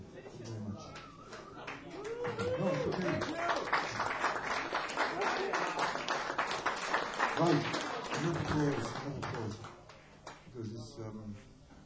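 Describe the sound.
An audience applauds steadily for about ten seconds, a dense, loud patter of many hands, while voices talk over it; the clapping thins out near the end.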